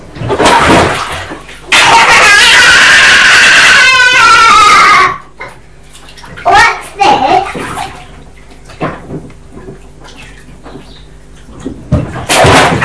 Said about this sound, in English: Don't do that again because you just splashed all over the floor.